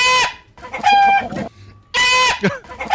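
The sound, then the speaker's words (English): A person's loud, shrill scream that sounds just like a squawking chicken, breaking into several harsh, cackling bursts with short pauses between them, piercing. “By the way, I sound like a chicken when I scream.”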